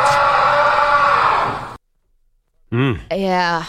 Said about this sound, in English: I think it's probably Julio Rodriguez, if I were to guess who was the person screaming in the background. Ooh, should we try to identify it again? Could have been Cal Raleigh.